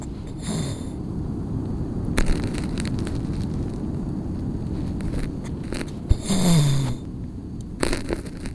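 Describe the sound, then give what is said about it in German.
A sea turtle in Costa Rica surfaces with a sudden, forceful exhale followed by a breathy inhale, set against a steady low rumble of surf. A few shorter breath bursts appear around it, with no talking. “Das heißt also, man hört immer ganz lange nichts, dann hört man diesen explosionsartiges Ausatmen und dann wieder einatmen.”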